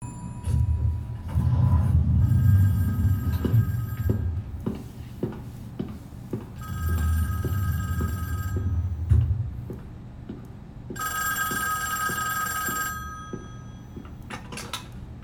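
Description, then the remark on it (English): The front man's telephone rings in three long, shrill bursts separated by pauses, its bright tone ringing out over a steady low rumble, with no one speaking. “The front man, his phone rings, and he's like, they're ready, preparations can begin, or whatever, something like that.”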